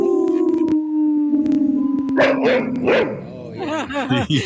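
Four voices howl together in long, wavering tones during a radio segment supporting wolf protection, and a dog joins with rising yelps and barks toward the end, the sounds overlapping loudly in a ragged chorus.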